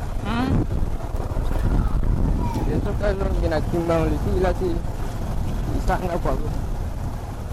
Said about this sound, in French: Les taxis-motos desservent aussi le secteur, ceci malgré l'interdiction par les autorités.